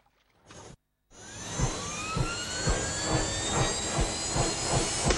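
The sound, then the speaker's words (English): A helicopter roars as it flies through a cloudy blue sky over the ocean, its rotor blades thumping in a steady rhythm beneath a rising turbine whine. A brief burst of noise and a short gap come before it. “The chopper flies through the cloudy blue sky.”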